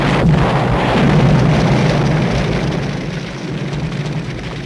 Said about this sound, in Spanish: Mike, what happened? That car that just passed us exploded. The car? How could it do that?